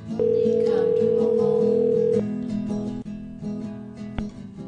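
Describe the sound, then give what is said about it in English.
A phone line rings once as an outgoing call is placed with a changed caller ID, a steady two-second electronic ringback tone, then falls silent while faint music continues softly in the background. “I have just changed my caller ID to be the store that I just called, and now I'm going to call”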